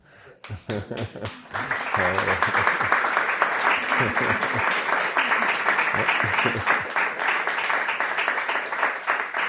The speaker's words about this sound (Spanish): No aplaudís, que me sonrojo.